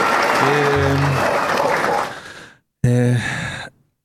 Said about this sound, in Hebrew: רגע. חייב כפיים כל פעם שאני אומר את השם הזה היום.